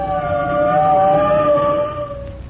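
Fire truck sirens wail in a loud, sustained tone that slowly slides down in pitch as fire trucks arrive at an apartment building with a gasoline-fed furnace, with a low engine rumble underneath and no voices.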